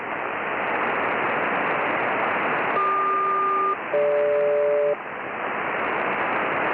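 A SELCAL tone check over HF radio on 5451 between Boeing 469 and Boeing Everett, SELCAL code Charlie Quebec Delta Golf: two back-to-back one-second dual-tone bursts rise out of steady, hissing shortwave static, with no one speaking.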